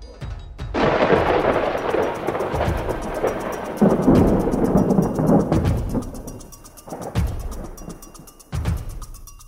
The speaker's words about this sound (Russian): В этот момент из колонны раздался ужасающий силы гром, от которого, казалось, лопнула оболочка вселенной.